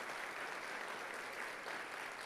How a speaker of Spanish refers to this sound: Aleluya, dale fuerte un aplauso al Señor, gloria sea su nombre.